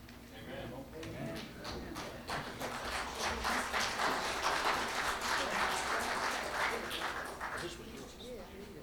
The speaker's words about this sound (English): you applauded for a lot of nice things, and I'm so pleased that this has been a good experience for you.